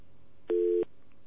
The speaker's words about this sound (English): It's nice when we don't have the dial tone, but you know.